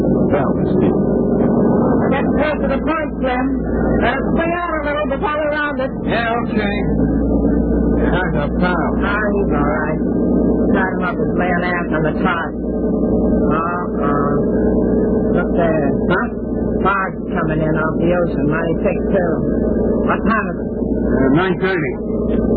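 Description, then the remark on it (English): A boat engine drones steadily and loudly as the vessel pulls away from a pier in a Bulldog Drummond radio drama, a low continuous rumble with busy, indistinct vocal-like chatter layered over it throughout. “Their boat pulls away from the pier.”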